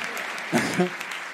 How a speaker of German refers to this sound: Du kriegst doch viel mehr Applaus als ich.